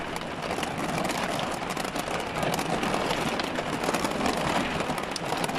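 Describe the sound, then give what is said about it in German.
Heavy rain pounds steadily on the metal roof of a camper van at night, a dense, continuous drumming that stays loud throughout, with no voices. “Scheinbar kommen hier manchmal Regenmassen runter, die solche Drainagen notwendig machen.”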